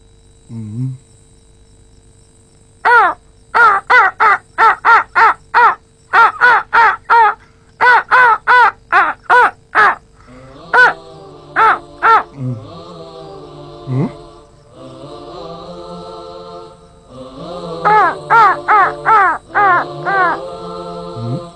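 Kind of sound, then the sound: bird, crows cawing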